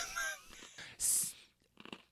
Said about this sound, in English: I'm sorry, I'm eating my pretzel.